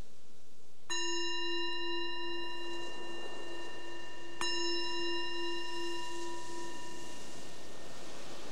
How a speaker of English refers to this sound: So the bell is the invitation to let go of whatever was happening before and just be present with what's right here, right now, in this mind and this body.